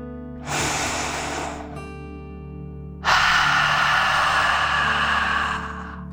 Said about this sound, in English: Now let's take one more deep dragon breath together. Remember to breathe in through your nose, filling up your lungs, and breathe out through your mouth, pretending you are breathing fire. Ready? Take a deep breath in and out.